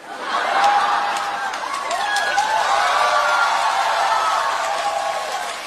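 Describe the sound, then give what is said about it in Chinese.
An audience applauds steadily for several seconds, a dense, even wash of clapping with scattered cheers and voices mixed in, holding loud throughout and easing only slightly at the end. “行了，别鼓掌了，别鼓掌了。”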